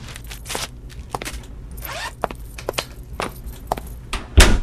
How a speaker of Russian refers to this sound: сори, бэйби, хлопнули двери.